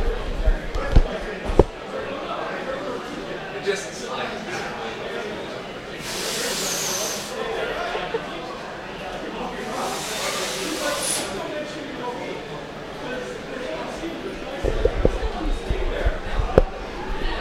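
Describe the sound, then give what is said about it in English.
A door being opened and closed: sharp knocks and latch clunks at the start and end, with two hissing, rushing bursts between them over faint room noise and muffled voices. “That door is complicated sometimes.”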